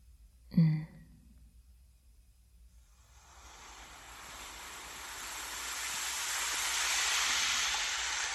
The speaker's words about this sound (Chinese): 这里是一望无际的大海，白色的沙滩上有一个木头长椅，被海风吹得很干净。